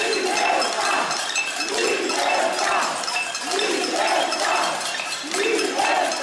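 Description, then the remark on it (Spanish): Protesters on Calle Núñez de Balboa in the Salamanca neighbourhood bang pots and pans against the Sánchez government in a dense, continuous metallic clatter while a crowd chants in a steady repeating rhythm, the chant rising roughly every second and a half. “Llevan tres tardes en el corazón del barrio de Salamanca, en la calle Núñez de Balboa, que muchas personas aprovechan la hora del paseo y ejercicio para concentrarse en la calle y gritar consignas contra el gobierno de Sánchez a golpe de cacerolas.”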